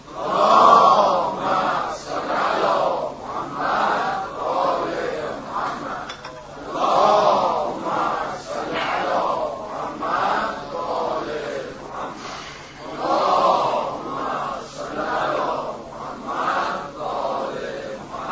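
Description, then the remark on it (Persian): A large crowd chants three salawat in unison, three long recited phrases in a row with brief pauses between them, loud and full-voiced, with overlapping voices. “شما منو تشویق بفرمایید با 3 تا صلوات”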